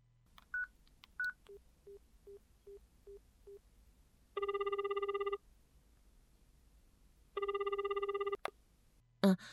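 A few quick beeps of keypad dialing for an outgoing phone call, then two long bursts of a ringback tone with a short pause between, clear with no one talking, ending in a sharp click.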